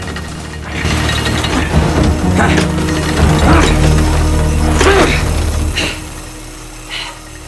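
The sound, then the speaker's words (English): Mechanical grinding of cogs and gears on a practice rowing machine in a boathouse, rowed frantically under strain: a dense low rumble with rhythmic surging strokes and sharp clacking bursts repeating roughly every second, fairly loud throughout. “rows frantically on the practice machine, the cogs and gears grinding under the strain.”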